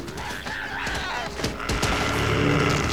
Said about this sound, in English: they opened fire, driving it back, blasting it into submission. It falls, kicking and writhing in agony under a hail of bullets.